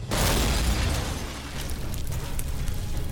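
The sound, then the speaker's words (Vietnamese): A loud explosion bursts out at once, a deep rumbling boom that stays heavy and roaring for several seconds, with crackling debris scattered on top and no voices, depicting a huge blast whose pressure wave destroys buildings and infrastructure. “32.000 km vuông cơ sở hạ tầng sẽ bị phá hủy bởi sóng áp suất từ vụ nổ.”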